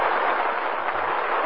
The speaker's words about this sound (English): That applause means you'll be with us again.